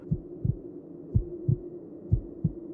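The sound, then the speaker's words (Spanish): A rapid heartbeat thumps in low, muffled pairs, about three double beats in under three seconds, over a faint steady hum with no voices. “Solo podía escuchar mi corazón latir rápido.”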